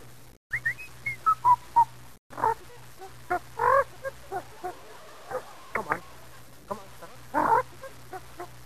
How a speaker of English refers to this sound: All right, then, I want you to whistle the hot stuff. Will you do that?